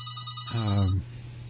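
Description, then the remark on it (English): A telephone rings once with a call coming in to the Free Radio call-in show, a short electronic trill with stacked tones, fairly loud, followed by a low hum of background noise. “let's interrupt this thought to see who's on the phone.”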